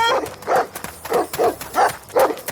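dogs barking

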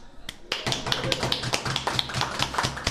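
short applause

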